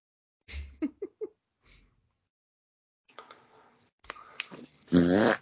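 A low blurting fart opens, followed by three quick squeaky toots. After a pause come scratchy, rustling noises and a loud, drawn-out squealing tone at the end.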